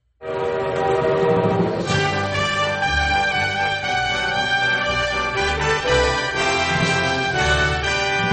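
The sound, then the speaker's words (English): The Denali Star passenger train in Alaska rolls along the rails with a steady low rumble while its horn blares loudly and continuously over it, with no voices. “Well, now we have prepared for you a very special video, and you'll get to see Alaska and see what going on the Denali Star Train is like”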